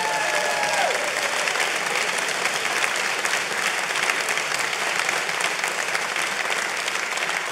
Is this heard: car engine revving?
no